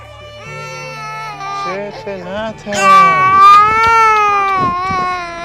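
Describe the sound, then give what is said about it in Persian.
A young child frightened by an earthquake cries loudly, with sustained wavering wails that rise in pitch toward the end, over a steady low background hum, in Dasht-e Zahab between Qasr-e Shirin and Sarpol-e Zahab. “گریه نکن. میترسه. بچه هست از زلزله ترسیده.”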